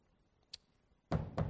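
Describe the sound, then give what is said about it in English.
A faint tap followed by two loud, solid knocks on a door, the second arriving shortly after the first, with quiet otherwise. “And there's a knock at the door.”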